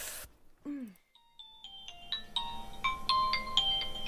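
A mobile phone ringtone plays a bright, rising electronic melody of chiming notes, steady, building over a few seconds after a brief burst of noise and a short vocal sound.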